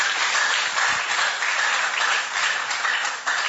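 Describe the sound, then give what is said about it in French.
Steady, dense audience applause, many hands clapping at once in a continuous bright wash of noise that holds at an even loudness throughout, with no voices over it. “Veuillez applaudir, s'il vous plaît.”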